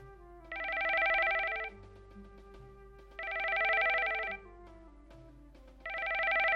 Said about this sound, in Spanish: Sabela no escuchó el teléfono la primera vez que sonó